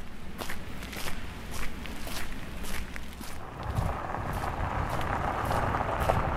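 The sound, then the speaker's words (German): Slow, steady footsteps crunch along a dusty, unpaved village dirt road as someone walks on foot in the heat to a cultural center. Each step scuffs the gritty ground, with a faint outdoor breeze in the background and no one talking. “Die Hitze sorgt dafür, dass meine Schritte immer langsamer werden.”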